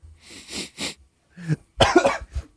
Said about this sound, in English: It's an immediate cough from both you guys.